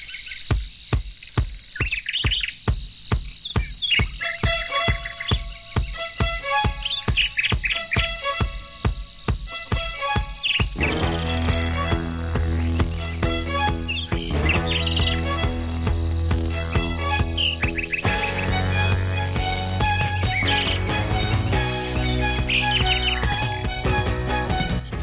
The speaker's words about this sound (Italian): Bello risentire l'uccellino che rappresenta la sigla del disco amico Musica Richiesta, un programma che va in onda su Radio Milazzo 100 MHz in occasione di un'edizione particolare di 100 Forever.